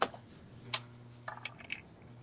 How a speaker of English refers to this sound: And then I'm gonna roll this dice.